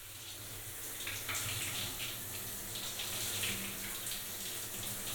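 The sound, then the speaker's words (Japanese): Steady running water pours continuously from a tap, an even splashing rush with no pauses, rinsing off soap foam. “はい、うん、 流していきます。”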